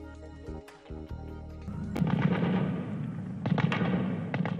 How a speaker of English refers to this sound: Gunfire echoed through Kabul as gunmen dressed as doctors stormed a hospital in the Afghan capital today and battled security forces for hours, killing more than 30 people and wounding dozens in an attack claimed by Islamic State.